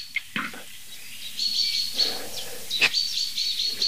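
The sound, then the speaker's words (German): A chaffinch repeatedly gives sharp, high-pitched alarm calls at its nest, short bright notes in an irregular series, with faint thin whistles and background chirping between them. “Also die, da würde ich jetzt bei dieser speziellen Situation, Buchfink warnt am Nest, nicht so sehr zwischen Luft- und Bodenfeind unterscheiden, wenn es ums Nest geht, ja.”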